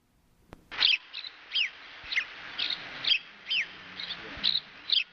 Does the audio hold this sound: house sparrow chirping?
yes